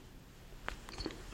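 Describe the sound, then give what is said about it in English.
Quiet chewing of five flat blueberries put into the mouth at the same time: a couple of soft, wet squelching bites over a faint background hush, with no one talking. “Nothing to do except chew blueberries.”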